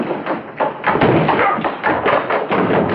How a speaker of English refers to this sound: Lois hurries back down the stairs.